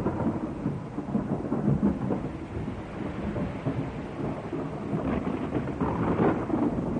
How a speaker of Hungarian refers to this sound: Micsoda vihar!